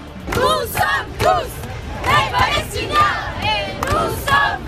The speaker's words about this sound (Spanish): Oímos gritos de somos todos palestinos, Palestina libre o Israel asesina, con organizaciones sociales, pero también partidos políticos como la Francia Insumisa y sindicatos. Como digo, hay cánticos, ambiente amable y hasta una batucada